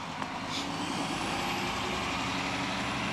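A large garbage truck rumbles by, its heavy engine droning steadily with a faint high hiss of air brakes partway through; no one speaks.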